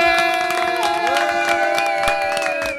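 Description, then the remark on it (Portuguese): A crowd applauds and cheers, with dense, steady clapping mixed with sustained high-pitched shouts and whoops throughout, loud and unbroken for the whole stretch. “Fortísimo aplauso, por favor”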